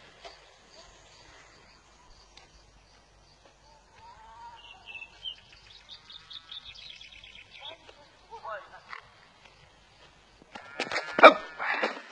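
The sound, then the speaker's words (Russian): Dogs bark and yelp in a scattered run of high, strained calls, building to a louder, harsher burst of barking near the end, with faint background noise throughout. “Собаки.”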